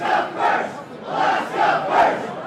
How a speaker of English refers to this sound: The vote yes, repeal the giveaway team marched into Anchorage's Election Central, cheering enthusiastically and believing momentum was on their side.